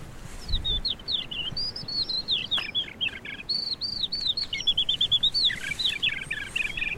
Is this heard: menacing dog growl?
no